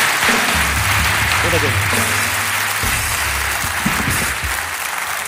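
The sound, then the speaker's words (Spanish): A crowd applauds steadily for two women, a dense wash of clapping that stays loud for the whole stretch, with low murmuring voices underneath. “Pero un fuerte aplauso para ellas dos.”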